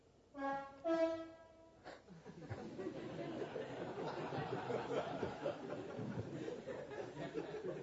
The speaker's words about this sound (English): All through the night I've been waking up and there's been a train outside our house gently purring away or making noises like that.